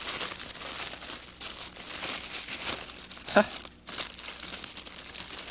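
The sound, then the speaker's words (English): Continuous crinkling and rustling of a little, poorly made, machine-made paper crown from inside a tube being handled, with irregular scrunches and one sharper crackle partway through. “A little paper crown. Mm-hmm. This one isn't well made.”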